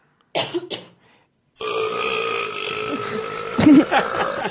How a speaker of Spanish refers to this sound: La acaban de dejar un eructo.